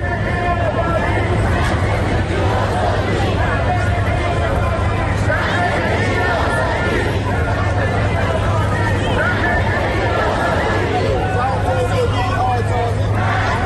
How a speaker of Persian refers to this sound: همه یک صدا فریاد زن، زندگی، آزادی سر داده و خواستار پایان 4 دهه حاکمیت جمهوری اسلامی شدند.